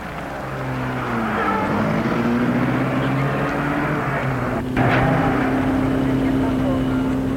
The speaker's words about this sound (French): le chauffeur, de mauvaise grâce, met en route sa voiture.